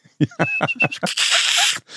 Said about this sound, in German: Höre ich in letzter Zeit auch immer gegenüber auf dem Dach unseres Mietshauses, nämlich der Hausrotschwanz. Genau, Vogel des Jahres als Vorgänger.